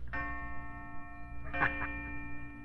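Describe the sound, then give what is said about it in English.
Small watch chimes, set off by pulling out a little lever on the side of the watch, ring out with a sustained, bell-like tone, struck again about halfway through so the ringing overlaps and keeps going, steady, with no one speaking. “Those are pretty chimes.”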